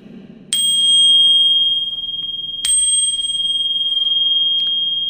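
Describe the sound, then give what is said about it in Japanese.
A Buddhist temple bell is struck twice, about two seconds apart, at the end of the year in December. Each strike rings out loud and clear with a bright, sustained tone that lingers and slowly fades. No one speaks. “あの待ってますから、あの私のようにね、体が痛まないようになんて願いを込めてね、はい、あのゴンとついていただけると、 ゴンと、 うん、素敵な年が迎えるんじゃないですかね。”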